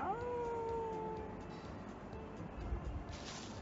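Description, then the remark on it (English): A wolf lets out one short howl that rises and then holds a steady pitch for about a second before fading, leaving a low, rumbling background with no talking. “To the west there is a wolf that starts to run towards you.”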